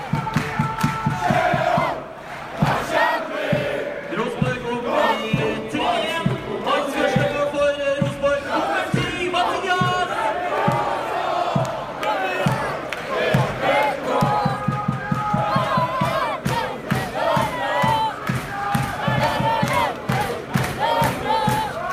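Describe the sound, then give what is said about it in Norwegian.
A football crowd on the Øvre Øst stand chants a loud, sustained sha-la-la in unison, with steady rhythmic beats of clapping or drumming running underneath throughout. “Det handler om en svært ung nippan som er på Øvre Øst og synger sjalalalalalalala.”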